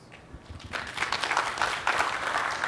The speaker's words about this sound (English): The reason I asked is because I started to hear a clap or two that were lonely, so I thought I'd say, okay, are there more of that?